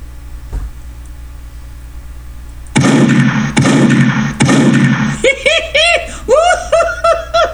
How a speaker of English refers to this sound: door kicked in, apparently they heard this.